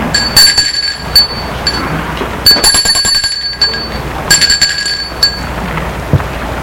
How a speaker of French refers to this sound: Devant chez elle, elle sort de voiture et va sonner au portail.